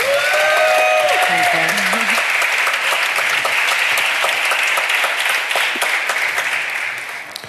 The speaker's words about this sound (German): Einmal Applaus, bitte.